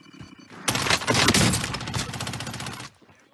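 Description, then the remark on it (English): Rapid machine gun fire from the video game Call of Duty, played on Twitch, erupts in a dense, loud burst of repeated shots lasting about two seconds, then cuts off abruptly into quiet. “not until the next day, and he's back on Twitch, and he's back playing Call of Duty, that he gets a phone call”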